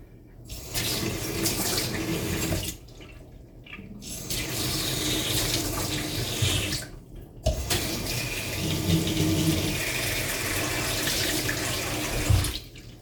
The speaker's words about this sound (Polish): Teraz sobie naleję wody, żeby była ciepła, bo to jest potrzebna dobrze ciepła woda.